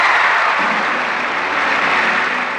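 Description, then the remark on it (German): Steady, dense applause from a large audience at the 1967 Academy Awards as actress Anne Bancroft, in a black evening gown, walks from the audience onto the stage to accept Best Actress for Elizabeth Taylor; a continuous loud wash of many hands clapping without pause and no voices over it. “Die Frau im schwarzen Abendkleid, die dann unter Applaus aus dem Zuschauerraum auf die Bühne tritt, ist aber nicht Liz Taylor, sondern ihre Schauspielerkollegin Anne Bancroft.”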